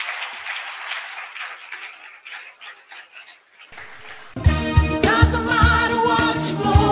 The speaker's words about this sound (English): Now, you can clap your hands for the Lord. Thank you very much.